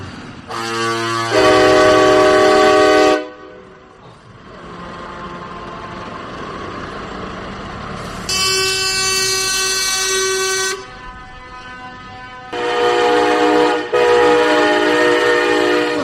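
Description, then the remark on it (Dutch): Loud, sustained air horns from a trucker convoy in the Netherlands blare in long overlapping blasts, with a steady rumble of engines between them. Several horns sound one after another, and no one speaks. “Dat is de Trucker Convoy NL.”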